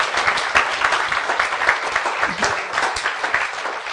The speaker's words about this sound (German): Wollen wir den Technikern, die so still ihren Dienst da hinten machen, mal einen Applaus gönnen hier, ja? Danke.